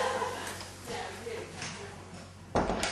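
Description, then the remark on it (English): A door shuts with a single solid thud near the end, after a stretch of quiet murmur and faint background voices. “Here, turn it off. Close that door.”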